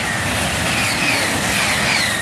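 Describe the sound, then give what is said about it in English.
A high-speed train in France roars past, a steady, loud rushing rumble with faint high metallic whines drifting over it for the whole moment, no voices present. “Recordings of high-speed trains in France have fanned local fears of noise pollution.”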